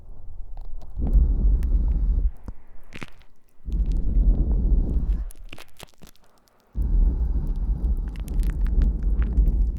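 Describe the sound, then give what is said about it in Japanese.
Three long, breathy gusts of air blown into the ear, each a loud, rumbling whoosh lasting over a second, separated by brief pauses with faint clicks and rustles. “やはり息を吹きかけられるの弱いですね。”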